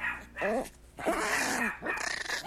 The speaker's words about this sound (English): This is everybody's bark.